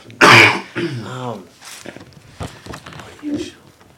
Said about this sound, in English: Cough again.